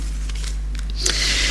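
Thin paper pages of a Bible rustle and flip in a few quick, soft swishes as someone leafs to 2 Samuel 6, verses 20 to 22, ending in a longer, brighter sweep of turning pages, with no one speaking.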